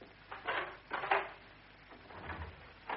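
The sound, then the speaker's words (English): A door is opened: two short wooden clunks and rattles of the latch and frame, followed by a softer low rumble as it swings, with no voices. “Open the door.”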